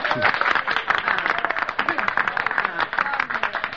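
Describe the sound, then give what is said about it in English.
A crowd applauds steadily, a dense wash of many hands clapping at once, holding a fairly even loudness for the whole stretch with no voices standing out. “You applaud my gray hair.”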